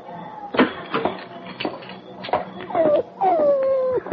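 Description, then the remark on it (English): Sam Park's dog whimpers, giving a couple of high, drawn-out whines that slide downward in pitch, after a few soft thumps and shuffling noises. “Let's take Sam Park's dog back to him, California.”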